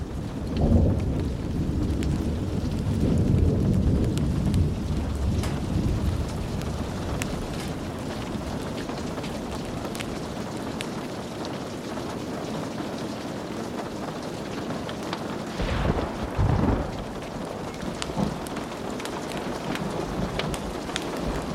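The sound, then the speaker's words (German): Deep thunder rumbles and rolls over the land through steady rain, with a heavier low boom early on and another swell of rumbling near the end, no voices present. “Der Donner rollte über das Land, ein kraftvolles Echo der Energie der Natur.”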